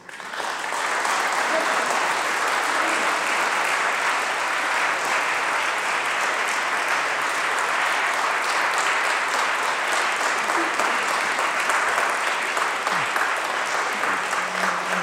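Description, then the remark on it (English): Sustained applause from a church audience after a speaker's talk, a dense steady wash of many hands clapping at an even, loud level for about fifteen seconds with no voices standing out. “Applause, Vicar, is for the hero of the story, not for me.”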